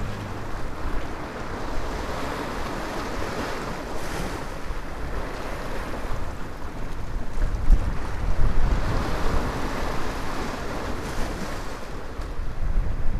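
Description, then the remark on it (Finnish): Sea waves wash ashore steadily with a wind-blown hiss, building to a slightly louder surge about two-thirds through before settling back; a continuous wash with no talking. “Tätä suolavettä tässä on aika lailla ympärillä, sitä riittää ihan varmasti”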